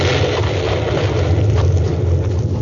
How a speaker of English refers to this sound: A tremendous explosion rocked the great mountain.